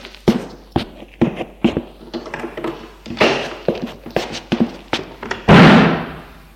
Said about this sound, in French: porte à claquer.